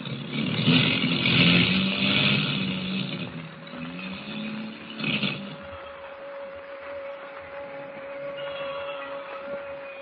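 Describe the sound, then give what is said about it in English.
Rough, droning airplane engines misfire in a storm as the plane drops lower, sputtering and coughing unevenly through a broad rushing roar, with a steady hum running underneath and a brief louder surge midway. No one speaks. “Motors are missing worse than ever. We're dropping lower.”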